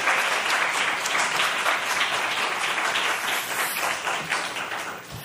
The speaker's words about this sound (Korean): 우리 할렐루야 하면서 박수하시겠습니다. 할렐루야.